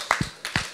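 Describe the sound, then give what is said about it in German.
Brief burst of audience clapping, a few sharp uneven claps standing out from a softer spread of hand claps, with no voices. “Applaus!”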